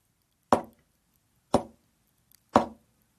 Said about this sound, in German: Mein Nachbar, der Feldwebel Nerath, aus Graz, klopft dreimal leise.